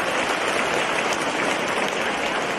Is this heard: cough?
no